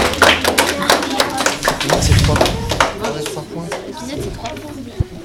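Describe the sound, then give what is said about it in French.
A group applauds quiz contestants for several seconds, a dense, irregular patter of hand claps that stays fairly loud throughout, with voices murmuring underneath and one sharper clap standing out near the end. “On peut les applaudir.”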